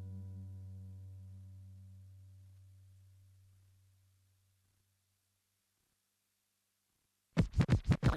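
A low humming tone fades out into silence, then a vinyl record on a turntable is scratched back and forth in a quick, loud burst of about five rhythmic strokes at the very end.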